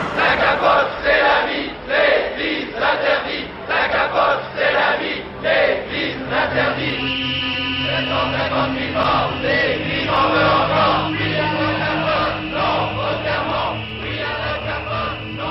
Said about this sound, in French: Dehors, ils sont plus de 200 militants sifflés à la bouche, pancarte à la main, pour suivre l'action devant les caméras, prévenus d'opération.